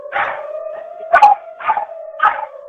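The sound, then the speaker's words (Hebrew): A female dog howls in a sustained, wavering tone, broken by four louder yelping bursts at a steady rhythm. No one speaks. “כן, כן, והכלבה של הבתים.”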